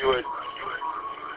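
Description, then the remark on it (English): A radio receiver's squelch crash: a sudden loud burst of harsh, hissing static that trails off into a steady, tinny wash of radio noise for about a second. “You mean, no, the swelch crash is from the receiver,”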